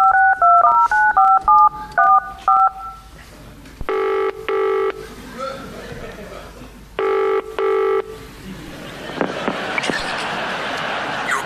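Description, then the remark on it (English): A quick run of about a dozen clear telephone keypad dialing beeps as someone calls a mobile phone company about a phone, followed by two paired bursts of a ringing tone and then a wash of noisy background. “Oh, yeah, we're ringing up about our phone.”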